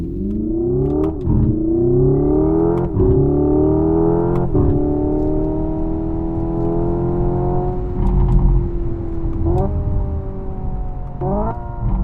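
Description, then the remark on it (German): A synthetic, computer-generated sports-car engine note, heard inside a Hyundai Ioniq 5 N fully electric sports car, revs steadily upward through several gear shifts, each marked by a sharp click-like break and drop in pitch, loud throughout, with no talking. “Das ist der Sound, den die Insassen eines Hyundai Ioniq 5N im Inneren auf die Ohren bekommen.”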